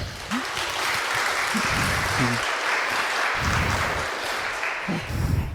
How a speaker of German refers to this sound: Bitte begrüßt mit einem großen Applaus für den Talk.